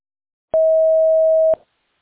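A single steady electronic beep holds one pitch for about a second, loud and clean, with sharp clicks at start and end, then silence: an answering machine's recording tone, followed by a provider notification call from River Valley.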